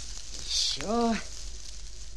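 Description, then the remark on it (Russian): A brief, bright hiss as a fire is smothered with sand, sizzling out in a moment, followed right after by a short voiced vocal sound that rises and falls in pitch. “Пожалей меня, Мартын, засыпь огонь.”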